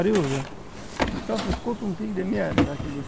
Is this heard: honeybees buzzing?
yes